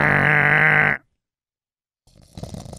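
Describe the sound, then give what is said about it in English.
A man gives a loud, drawn-out voiced yawn lasting about a second that cuts off into silence, followed by softer, scattered background noise. “Yeah, that's what he did the whole podcast. Coach, I couldn't stop yawning.”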